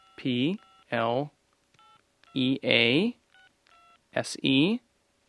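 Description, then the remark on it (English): A cell phone keypad beeps through a series of short, clipped tones as someone types the text message "please call", interleaved with loud, drawn-out vocal sounds that rise and fall in pitch. “There are NCAA rules limiting the times when I can call a recruit, so I whip out my cell phone and send the following text message.”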